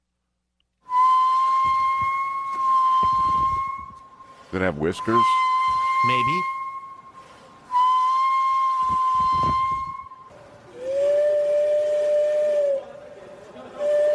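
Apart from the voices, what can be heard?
train whistle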